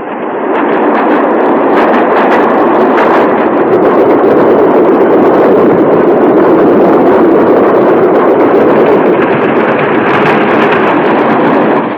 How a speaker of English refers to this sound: The train rushes on, devouring the miles in its long journey down through the mountains.